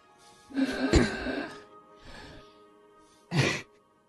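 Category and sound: human body sound, heavy breathing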